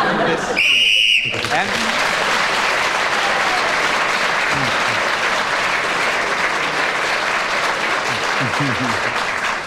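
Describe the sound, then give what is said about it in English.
A room full of people applauds steadily for several seconds after a player's round on the subject of ping-pong in a game, a dense, continuous wash of clapping that stays loud throughout, with a brief tonal burst at the very start. “I think he deserved that applause for managing to find the day after the night when you have to keep going after a phrase.”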